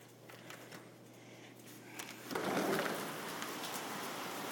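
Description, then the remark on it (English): Steady rain hisses outside during a thunderstorm, soft at first and then swelling noticeably louder partway through as the back door is opened, a dense, continuous patter with no voices. “It is raining, yes. And thundering too.”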